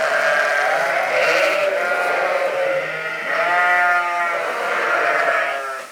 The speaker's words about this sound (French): Bon, ça c'était une brebis. Plusieurs. La grenouille fluo de l'Aveyron. Un troupeau, quoi.